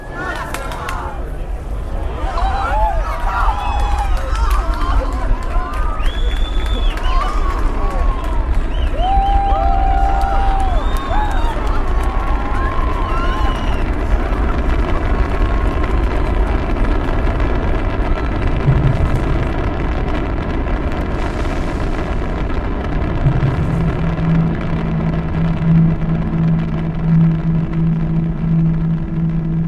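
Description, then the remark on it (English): A thick, continuous low rumble of rocket engines at liftoff, with a crowd cheering and shouting over it, the roar sustained and loud throughout. “The engines will start in 6 seconds before liftoff.”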